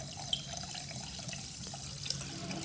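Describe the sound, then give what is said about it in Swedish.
Sparkling water is poured from a freshly opened, cold bottle into a glass, a steady fizzing splash with a few sharp little clinks and pops over a couple of seconds, no voices. “Så det blir att hälla upp.”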